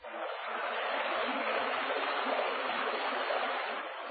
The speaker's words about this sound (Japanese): さすれば、ほどなく北から南へ流れ下る矢作川が行く手を遮る。